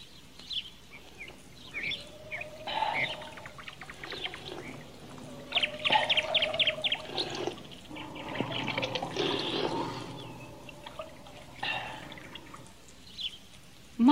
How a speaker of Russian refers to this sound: Что я вижу? Родник с чистой водой.